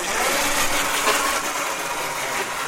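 A small robot that looks like a car battery crossed with a Roomba scoots back and forth on command on a classroom floor, its motor whirring steadily, a dense, buzzy hum with hissy upper tones that holds an even level for a few seconds, with no voices.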